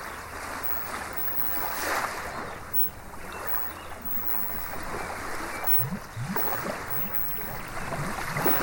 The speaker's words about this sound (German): Zu den Wellen des Meeres, die du hörst, wird gleich ein schwingender Ton hinzukommen, der dir hilft, noch schneller in die Ruhe zu kommen, noch schneller und tiefer zu entspannen.